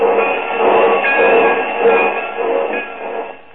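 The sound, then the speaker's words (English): A train sits at a station platform, giving off a steady, fairly loud rumbling hiss with faint metallic squealing tones running through it, with no voices. “The porter's helping him off the train.”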